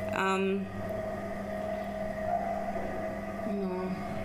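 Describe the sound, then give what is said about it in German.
A steady mechanical hum with tonal harmonics from an EOS 9 machine runs throughout, broken by two short, squeaky creaks of its bearing, one at the start and another near the end. “Eben war so ein kleines Knarzen zu hören.”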